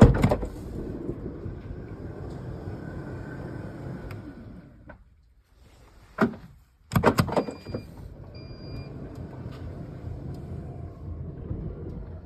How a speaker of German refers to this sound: Also wir machen die Schiebetür erstmal auf. Ja, elektrisch. Entweder über die Taste unterhalb des Navi-Bildschirms oder über den Schlüssel.